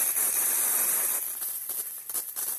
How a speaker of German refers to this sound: Das Geräusch der zeitgesteuerten Rasensprenger ist typisch für Kalifornien.